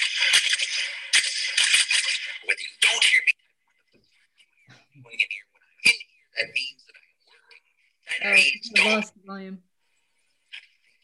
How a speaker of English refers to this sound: You hear me typing.